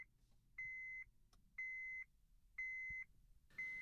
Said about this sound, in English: But when you look at it, all it did was light up a tiny little red stick figure and go beep, beep, beep for 3 seconds. And if you didn't put it on, it didn't care. It stopped.